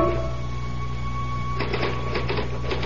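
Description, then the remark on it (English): Typewriter keys begin clacking in a quick, uneven burst of sharp strikes partway through, over a constant low mechanical hum that runs the whole time. “Start typing”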